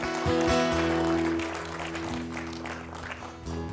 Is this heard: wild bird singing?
no